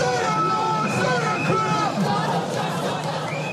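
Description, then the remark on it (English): A dense crowd of tens of thousands of protesters in London, demonstrating against U.S. President Donald Trump's visit, fills the air with loud, steady babble, overlapping voices and shouts blending into a continuous roar with no single speaker standing out. “The president was heralded by military bands as he arrived at Windsor, a more welcoming sight than the tens of thousands of people protesting his visit to London.”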